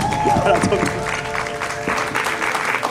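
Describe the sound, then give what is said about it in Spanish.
An audience claps steadily for about three seconds, a dense, fairly loud wash of applause with some voices mixed in, especially near the start. “Un aplauso.”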